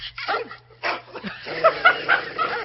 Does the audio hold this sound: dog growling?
yes